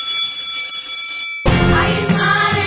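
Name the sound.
bell ringing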